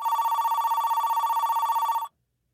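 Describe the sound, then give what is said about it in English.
A telephone ringback tone trills steadily for about two seconds as an outgoing call is placed to an aunt, a warbling electronic ring heard clear, then cuts off abruptly into silence. No one speaks. “Should we call Aunt Char?”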